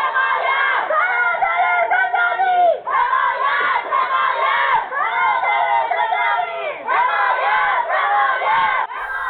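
A group of women prisoners in Ward 5 of Evin Prison chants together in protest against the prosecutor's action, calling on male prisoners in Wards 4 and 6 to join; loud and steady, repeating a short rising-and-falling phrase in a regular rhythm with barely a pause throughout.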